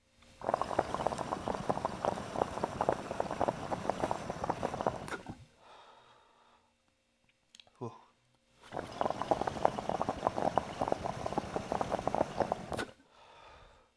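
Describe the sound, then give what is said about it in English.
Moisture sizzles loudly on a hot dab nail in two crackling bursts of about four to five seconds each, separated by a quiet pause with a brief soft noise. “And there's the sizzle from the moisture.”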